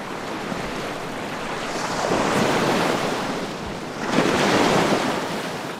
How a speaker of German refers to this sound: Wellen schlagen auf den Sandstrand auf.